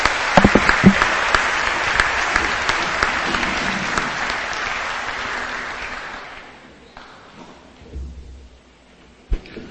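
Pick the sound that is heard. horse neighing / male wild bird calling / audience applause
audience applause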